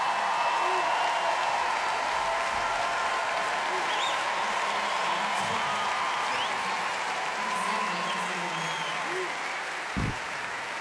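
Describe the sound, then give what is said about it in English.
An audience claps steadily for the orchestral band for about ten seconds, a dense, even wash of applause that holds its loudness throughout, with faint cheers mixed in. “Round of applause for the orchestral band because they were amazing.”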